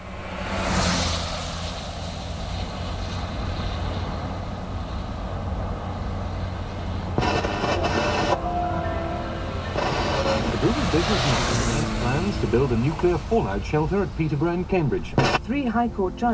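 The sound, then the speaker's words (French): Vehicles rumble past in a steady roar of road noise, with a sweeping swoosh as one car approaches and recedes, its pitch dropping; later, wavering tonal sounds rise over the traffic. “commence par un enregistrement d'une voiture qui fait entendre donc cet effet Doppler”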